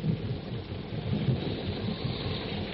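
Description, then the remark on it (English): A jungle storm by a tributary of the Ubangi River: heavy rain pours steadily while deep, rolling thunder rumbles, a dense, continuous storm roar with no voices. “Before Tarzan and his friends are able to cross the river, a jungle storm breaks.”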